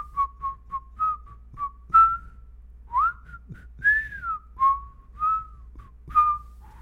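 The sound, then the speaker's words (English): A person whistles a song tune for a guessing game, a string of short clear notes and a few sliding phrases rising and falling in a melody, with no talking over it. “You want to play a game real quick where we whistle tunes back and forth to each other and I try to guess what you're whistling?”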